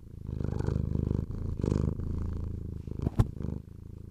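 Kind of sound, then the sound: animal, cat purring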